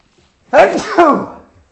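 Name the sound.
person sneezing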